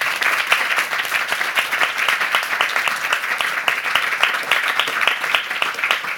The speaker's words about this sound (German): Ich würde eigentlich sagen, wir machen mal einen ganz großen Applaus für dieses Public-Private Partnership.